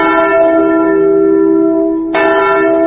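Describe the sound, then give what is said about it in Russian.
A deep mourning bell tolls loudly at the Katyn memorial in Russia's Smolensk region in April, its long ringing hum decaying before a second strike rings out near the end, with no voices. “Здесь, в Катыни, в апреле всегда слышен звон траурного колокола.”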